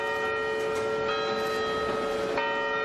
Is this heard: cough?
no